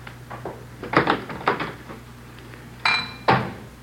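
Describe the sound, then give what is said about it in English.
Dishes clatter and clink in a series of sharp, irregular knocks as someone cleans up a messy kitchen, with a couple of louder ringing clanks near the end, over a low steady hum and no voices. “I guess I'll have to go in and clean it up.”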